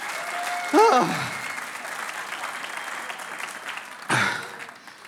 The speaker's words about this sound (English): Give my young colleagues here a huge round of applause.